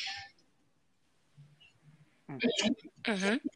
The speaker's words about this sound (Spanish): Ay, perdón, me vino como la tos.